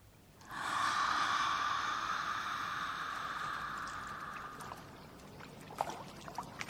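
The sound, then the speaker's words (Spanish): River water rushes steadily over stones, a loud hiss and burble that swells in quickly, holds for several seconds, then eases into a quieter murmur with a few small splashes. “El agua, el río, la piedra y el sonido me devuelven aquí, a lo bonito.”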